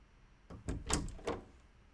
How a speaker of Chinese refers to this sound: 是我呀，开门。